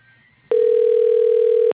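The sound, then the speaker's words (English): A single loud, steady ringback tone through a phone line as a call to a CNC woodworking company is transferred to the receptionist, holding one even pitch for just over a second after a faint hiss, then cutting off abruptly. No one speaks. “Your call is being transferred to the receptionist.”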